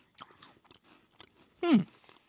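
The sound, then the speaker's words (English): Crunchy chewing of a tan-colored Kit Kat being tasted: a series of short, crisp bites and mastication sounds, with one louder, drawn-out crunch near the end that drops in pitch before fading into quiet. “All right, let's taste it.”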